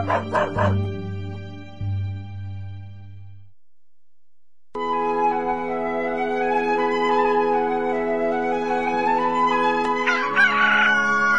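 A rooster crows loudly: a short burst of calls, a brief silence, then one long, drawn-out crow that rises in pitch near the end.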